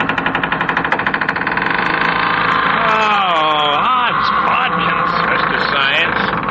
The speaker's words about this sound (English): I'm still working the hinge back and forth, but now it's bending much more easily